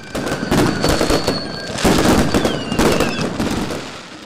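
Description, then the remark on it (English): A dense barrage of fireworks crackles and booms continuously during Lunar New Year celebrations in China, with rapid popping bursts layered over each other and a few whistling streaks rising through the clatter, loud, as crowds watch them light up the sky. “Up and down the country, crowds have gathered to watch fireworks light up the sky.”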